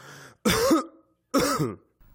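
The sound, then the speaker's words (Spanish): A person coughs twice at a doctor's request, two harsh, rough bursts separated by a short pause, loud with no talking around them. “Vuelva a toser. Otra vez.”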